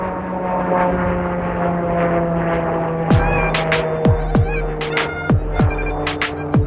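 airplane passing overhead

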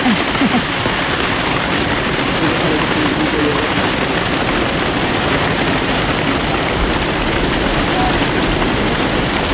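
heavy tropical rain falling

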